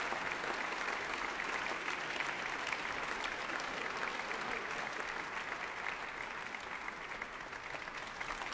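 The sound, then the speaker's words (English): Sustained applause and a rousing ovation from the audience in the Royal Albert Hall for five players of the West Eastern Divan Orchestra after an early Beethoven work, a dense, steady wash of many hands clapping at an even, fairly loud level throughout, with no speech. “More applause for five players of the West Eastern Divan Orchestra. Rousing ovation here in the hall.”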